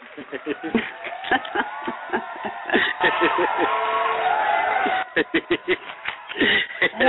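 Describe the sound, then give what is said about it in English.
A host plays a canned applause and cheering effect on his show for a caller: a crowd claps and whoops in a dense, steady wash, with sharper bursts of clapping near the start and again toward the end. “I can applause. That's awesome.”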